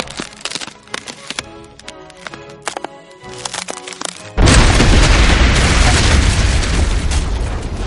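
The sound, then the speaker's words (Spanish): A rapid series of sharp cracks and snaps splinters across a frozen surface as web-like cracks spread and widen from a point of impact, then a heavy, roaring boom bursts in and rumbles on loudly until the end. “unas grietas, cuyo origen era el punto de impacto, se abrieron en la superficie congelada.”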